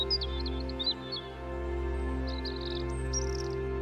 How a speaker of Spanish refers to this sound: Y escuchas el canto ocasional de los pájaros.